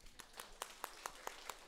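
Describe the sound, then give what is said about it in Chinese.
An audience clapping for mothers and grandmothers who have stood up, in a steady, even rhythm: sharp, bright claps roughly every fifth of a second rise over a continuous wash of applause, with no voices. “好，我们一起鼓掌。”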